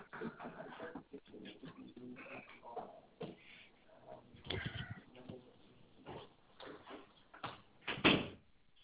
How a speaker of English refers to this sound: Okay, hold on. I just need to go shut my door.